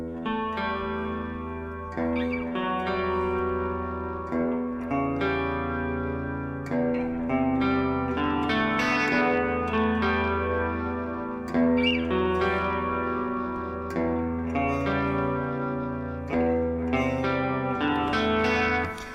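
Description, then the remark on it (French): Clean electric guitar plays a song's opening arpeggio riff, in E minor, with flowing notes washed in shimmering chorus with lush reverb and delay echoes trailing each note. It plays steadily at moderate volume with no voices. “qui sont aussi assez typiques de ce qui se faisait à cette époque-là avec un son clean, bien chorussé, noyé dans la réverb et le delay.”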